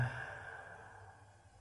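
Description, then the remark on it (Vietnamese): A single soft, breathy exhale like a quiet sigh, steady, fading gently over a second and a half with no talking, as a person deliberately breathes audibly during a breathing exercise. “Thở mạnh một tí vừa đủ mình nghe. Thở vào, căng lồng ngực, thở ra.”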